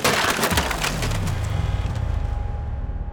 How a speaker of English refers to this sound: Open up, or we'll break down the door. Break it.